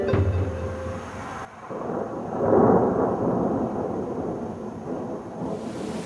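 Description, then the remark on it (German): Heavy rain pours steadily, a dense hiss filling the scene, with a deep rumble of thunder swelling partway through. No voices are heard. The rain falls before the gates of Hildesheim in an audio adaptation of the novel Das Geheimnis des Goldmachers. “In der Geschichte kommen der Araber Osman und sein Freund Robert, der Schmale, bei strömenden Regen an.”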